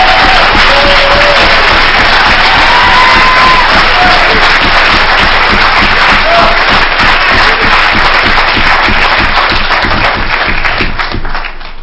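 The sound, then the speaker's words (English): A large crowd applauds itself, clapping loudly and steadily for about twelve seconds, with a few sharp whistles rising above the dense applause near the start, tapering slightly at the end. “If you know God and done something in your life today, give yourself a round of applause and then you can move on.”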